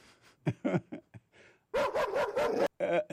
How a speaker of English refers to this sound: Old man done had a dog. It was a bow wow here and a bow wow there.